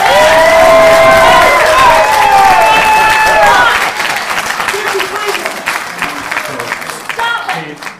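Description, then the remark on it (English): A crowd of more than 200 people at a town meeting bursts into sustained applause mixed with loud whoops and cheering, dense clapping throughout, the shouts fading slightly after a few seconds while clapping continues. “After multiple such eruptions from the crowd of 200-plus, the mayor closed the meeting with a heartfelt speech that was met with a standing ovation.”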